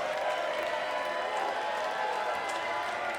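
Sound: crowd applauding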